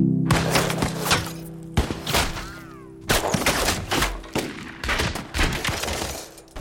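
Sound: gunshots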